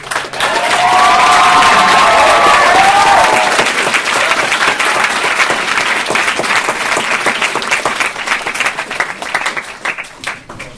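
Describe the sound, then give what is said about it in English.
A crowd breaks into loud, sustained applause with a few cheers and whoops rising over the clapping early on, then the clapping thins out and tapers off toward the end. “Once again, give another hand.”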